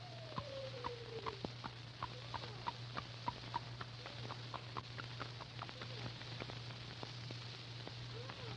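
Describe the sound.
Imitated clip-clopping hooves, made by a person pretending to be a horse: a quick run of sharp, hollow knocks in a loose trotting rhythm, steady, over a constant low hum and hiss, with no talking.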